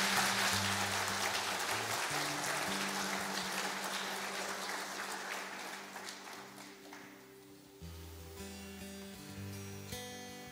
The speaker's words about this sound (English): Yes, let's give them a clap.